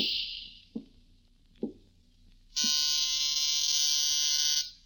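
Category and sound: household object, doorbell buzzer ringing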